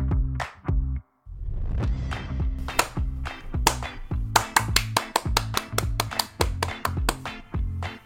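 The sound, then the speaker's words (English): A string of sharp hand claps, made as editing markers to find curse words for bleeping later, sparse at first and then coming quickly in a rapid irregular burst, set against a steady, humming tonal background with no one talking. “I'll see the annoying claps on the sound waves and I'll know more or less where the curse will happen”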